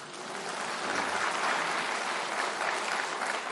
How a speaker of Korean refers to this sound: 박수 한번 쳐줘요.